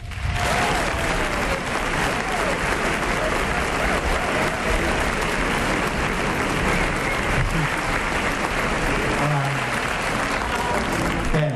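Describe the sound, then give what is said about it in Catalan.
Sustained audience applause for Mar Ulldemolins, steady and loud for several seconds, a dense wash of many hands clapping with faint crowd noise mixed in. “Espera, deixa'm aplaudir la Mar Ulldemolins.”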